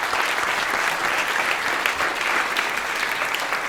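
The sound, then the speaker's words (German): Steady audience applause given in advance for a musician who will perform live on stage, a dense wash of many hands clapping at an even, sustained loudness for a few seconds with no voices on top. “Da kann man auch schon mal einen kleinen Applaus vorne wegschicken.”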